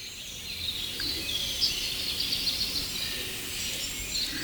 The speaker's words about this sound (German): Und natürlich im Hintergrund die zweite Welle der Amsel. Jungvögel von starren Eltern rufen nach Futter.